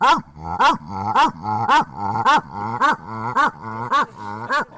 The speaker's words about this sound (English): they'll run towards and away from you and start barking. I didn't even know wolves bark, to be honest with you.